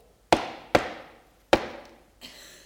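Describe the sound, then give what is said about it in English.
Three loud, sharp knocks on a door: two in quick succession, a short pause, then a third, each ringing out briefly, followed by a softer, duller sound at the end. No one speaks. “But then there's a knock at the door.”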